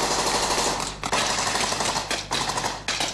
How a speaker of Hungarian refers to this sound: Amerikai katonák harcolnak az esőben. Lövések dördülnek.